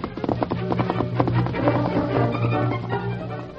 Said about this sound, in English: Sam heard the hoofbeats of an approaching horse and thought it might be the Lone Ranger returning from town.